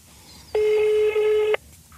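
A loud electronic telephone tone sounds on its own for about a second, steady and buzzy with a brief flicker partway through, then cuts off cleanly.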